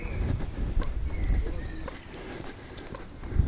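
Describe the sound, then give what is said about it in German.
Shoes squeak with each step while someone walks along the left side of a building complex: several short, high-pitched chirping squeals repeat over soft footfalls and a steady low rumble. “Dass man vielleicht ganz gut hören kann, dass meine Schuhe quietschen.”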